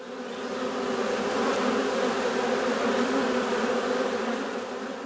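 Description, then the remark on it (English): A dense, agitated swarm of bees from a raided beehive in a forest buzzes continuously and loudly, a thick droning hum that swells slightly throughout, with no voices. “The two elves run deeper in the forest while furious buzzing fills their ears.”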